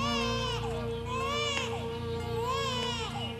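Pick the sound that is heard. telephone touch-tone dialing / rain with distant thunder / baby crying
baby crying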